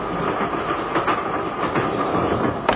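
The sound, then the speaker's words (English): A train carriage rattles steadily along the rails, a dense rumbling clatter with faint rhythmic clicks from the track, heard from inside at a constant loudness with no voices. “Everything's arranged for me to stop the train.”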